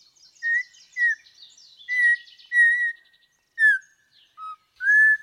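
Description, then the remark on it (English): A bird sings a series of clear, slurred whistles, each phrase short and separated by pauses, over a busy background of faint chirps and twitters from other birds. “In the 1940s, Roger Torrey Peterson, the renowned author of bird ID books, wrote, "The song suggests a boy learning to whistle."”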